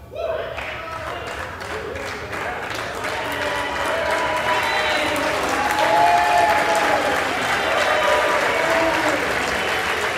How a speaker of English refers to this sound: Now, those clapping are bipartisan in support of Adam Schiff.